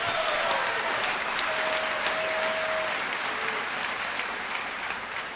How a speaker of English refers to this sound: You're clapping for yourselves